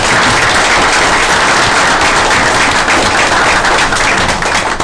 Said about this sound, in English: and I'd like you to, if you wouldn't mind giving her a brief round of applause.